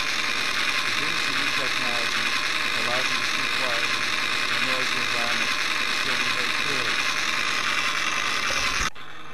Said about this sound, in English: The noise pressure level in the test is at least 110 decibels. This is a generic noise-canceling microphone. The background noise is taken from inside a Black Hawk helicopter. I will now speak quietly.